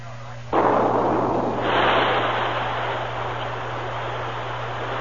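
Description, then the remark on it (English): A dynamite charge set in a hillside near a mine's lower level goes off with a sudden loud burst about half a second in, then a long, dense roar that swells again briefly and keeps rumbling over a steady low hum. “The men have the dynamite charge all set. Good. Set it off.”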